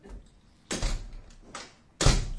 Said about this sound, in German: Zu. Zu. Ja, ist die Tür zu.